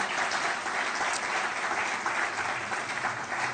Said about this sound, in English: So let's clap for the prophetess. Thank you.